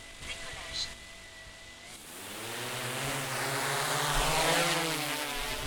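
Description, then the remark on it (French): Propellers of a drone of the SDIS de la Haute-Vienne fire service whir into life after a quiet start, building into a steady buzzing drone with shifting motor pitch that swells toward the end. “En cas de besoin, le drone est rapidement opérationnel.”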